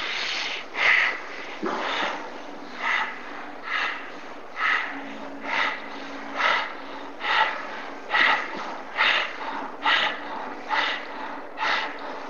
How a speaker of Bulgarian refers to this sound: Просто си поемаш дъх мощно през носа, пускаш дъха два пъти по-бързо от вдишването и пак вдишваш и пускаш, вдишваш и пускаш. Едно много приятно дишане, което пълни тялото ти с прана, с жизнена сила.